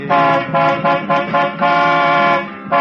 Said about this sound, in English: Here, here, cut out that racket. But, officer, that car in front, it stopped right in the middle of the road. It's blocking the whole street. You think you're Joshua and gonna blow it out of the way with your horn?